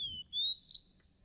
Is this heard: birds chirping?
yes